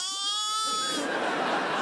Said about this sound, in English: A sheep? You've made a sheep? No, Igor, not just a sheep. A sheep that is an exact copy of another sheep.